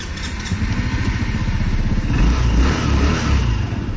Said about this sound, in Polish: Aktualnie jeżdżę skuterem. Możemy słyszeć.